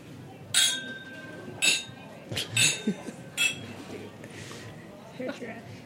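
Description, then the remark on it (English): Glasses clink together in a toast before drinking whisky, four or five bright, ringing taps spaced about a second apart, fairly loud over a soft murmur of voices in the room. “So I'm going to cheers everyone in the room with a good slánge eva.”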